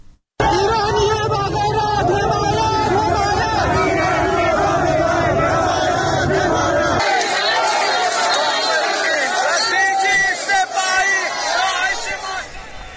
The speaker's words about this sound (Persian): همچنین پس از نماز جمعه شهروندان معترض زاهدان برای 24مین هفته متوالی به خیابانها آمدند و شعارهای ضد حکومتی سر دادند.